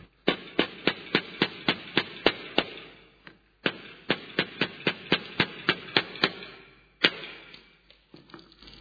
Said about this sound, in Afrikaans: Daar is 'n sekere klank wat as jy met 'n hamer werk. Daar is 'n sekere, die hamer slaan die spyker in. Die hamer gaan, weet, hy gaan raas, en hy gaan aanhou werk, solank as daar 'n spyker is.